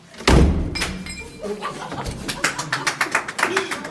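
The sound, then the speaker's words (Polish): A heavy thud opens the sequence, followed by a run of rapid, scraping knocks and rattles as an old door is wrenched and forced open. “ja te drzwi otworzę, a Ty takim, że jakby niedowierzaniem uśmieszkiem, nie, no to zaraz podzwonimy, naprawdę je otworzę, to otwieramy.”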